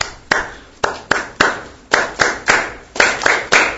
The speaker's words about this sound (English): Now that you have that down, now you start clapping your hands in time.